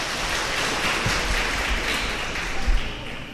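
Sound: audience applause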